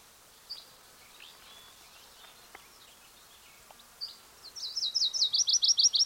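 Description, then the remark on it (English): A small songbird, either a Virginia's warbler or a yellow-rumped warbler, sings a quick run of high, sweet repeated notes that grow louder toward the end, after scattered faint chips and soft background twitters. “there's a probable Virginia's warbler singing. It's either that or a yellow-rumped warbler.”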